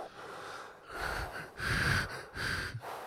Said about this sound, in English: Yeah, but it's a slow, steady breathing. It's never like sped up.